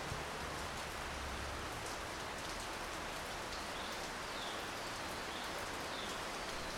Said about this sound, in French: Bah, c'est pas trop ce que j'avais prévu, une semaine de pluie pour mon arrivée en Grèce, mais on va faire avec.